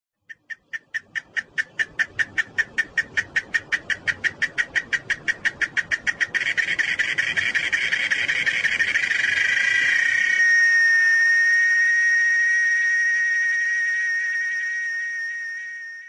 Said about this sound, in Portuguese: Quem já ouviu esse som antes? Esse é o som da cigarra, um inseto que depois que nasce se esconde debaixo da terra ou nesses buraquinhos que dão no tronco das árvores.